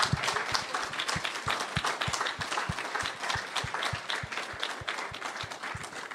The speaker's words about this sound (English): I want you to join me to give praise to Jesus as we give a clap offering to Jesus. Lass uns einfach noch einen Lobpreis Applaus geben für Jesus.